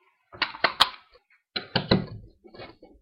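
A metal locker door, with bags and jackets stored inside, swings shut with a couple of sharp clanks, followed by heavier rattling thuds and a few softer clicks as it is latched and locked with a padlock, with no one talking.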